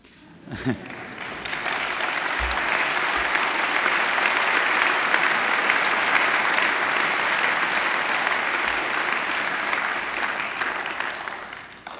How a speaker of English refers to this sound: I hope you could hear the applause. It was warm applause. Thank you so far.